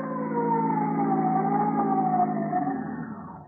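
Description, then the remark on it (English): A police car siren wails in one loud, sustained tone that slowly slides downward in pitch, then fades out at the end. No voices. “Police cars will be ready for noise emergencies.”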